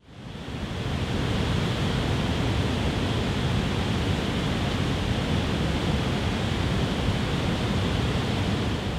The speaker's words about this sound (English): If you guessed a hydroelectric power facility, you were right. That was water flowing through the Clater Hydroelectric Project Dam on the New River in Pulaski County, followed by the buzz of power lines carrying electricity from the facility.